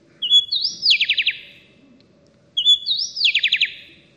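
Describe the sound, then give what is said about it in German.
A happy wren sings alone, two identical bright phrases about two seconds apart, each a rising whistle ending in a quick run of four or five descending notes, clear with no talking. “Zunächst einmal hören wir uns hier den Gesang des Buntwangen-Zaunkönigs an, der in Mexiko überwiegend vorkommt, als Solo-Gesang.”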